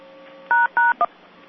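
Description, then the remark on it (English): Three telephone keypad tones dialed in quick succession: two pound-key beeps followed by a shorter, different-pitched tone for the 1 key, clear over a faint, steady line hum. “Pound, pound. What's the number? Pound, pound, one.”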